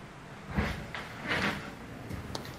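A door is handled and swung, with a few soft thumps and rattling scrapes spread over a couple of seconds, moderately quiet, with no one talking.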